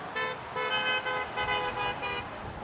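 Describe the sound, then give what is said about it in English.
Several car horns honk in repeated bursts, overlapping toots of varying pitch over a steady hum of passing traffic, fairly loud, as summer visitors drive home from up north in Wisconsin past an end-of-summer customer appreciation party waving them goodbye. “It's a customer appreciation party, but it's also a goodbye to summer and thanking our friends from the South that come up and support us, waving to them, saying thank you, come back next year, honk if you had fun.”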